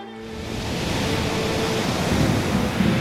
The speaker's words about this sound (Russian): Проснулся он от того, что корабль ходил ходуном. Штормящее море играло судном, и в темном трюме невозможно было понять, где пол, а где потолок.